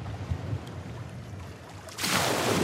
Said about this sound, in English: Is that you jumping in the water, Jenny? What is that? Or is that a wave? That's a wave.